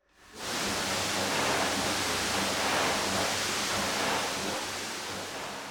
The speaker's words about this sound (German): Aus dem Hochdruckreiniger kommt das Wasser mit besonders viel Kraft heraus. Damit wird erstmal überall der grobe Schmutz entfernt.